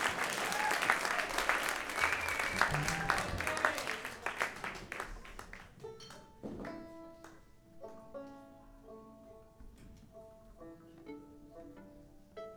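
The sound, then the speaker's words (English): A crowd applauds steadily for several seconds, a dense wash of clapping that thins and fades out midway, after which a few sustained instrumental notes play quietly. “clap, and you folks are right on.”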